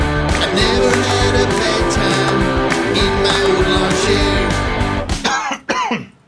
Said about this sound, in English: That is not a COVID cough. I've been eating those sesame snaps.